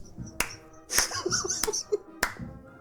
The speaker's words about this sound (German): Da muss ich kurz klatschen, das ist wirklich sehr gut.